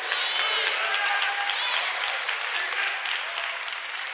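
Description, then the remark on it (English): A church audience at a 12 o'clock service applauds loudly and steadily for several seconds, with scattered voices calling out amens over the clapping, in a dense wash of sound. “I thought I'd get some amens from the 12 o'clock crowd.”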